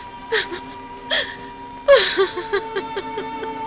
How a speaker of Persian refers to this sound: با گریه و زاری که کار درست نمیشه.